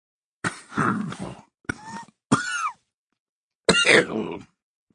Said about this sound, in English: He coughs into his handkerchief before speaking.